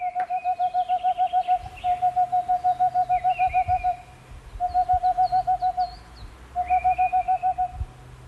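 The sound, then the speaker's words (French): A Tengmalm's owl sings rapid, evenly spaced bursts of soft hoots, four quick trains separated by short pauses, while other birds chirp faintly in the background. “C'est la chouette de Tegmalm. C'est son chant.”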